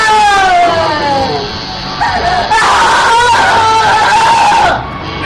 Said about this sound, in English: that screaming just gave me a boner.